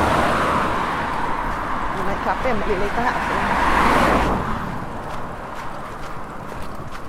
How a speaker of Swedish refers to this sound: Framförallt när man går mörklagt och så känner man att bilarna susar förbi på 60-väg.